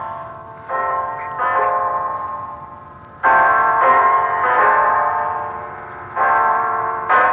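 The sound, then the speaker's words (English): A clock chimes ten o'clock with a series of resonant bell strikes, each ringing out and overlapping the next at an uneven, unhurried pace, fairly loud with no voices. “It's 10 o'clock”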